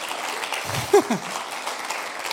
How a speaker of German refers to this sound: Auch danke mal, einen riesen Applaus für ICF Kids, für das ganze Team.